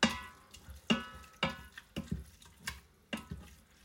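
Liquid slopping around in the bottom of a pressure cooker pot, with repeated wet sloshes and clanks about every half second as it's stirred, moderately loud with no talking.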